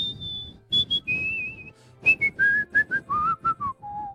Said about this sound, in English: Something you think's really hard to whistle to. Grieg's Piano Concerto.